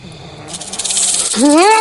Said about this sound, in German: Huck klappert mit seiner Rassel.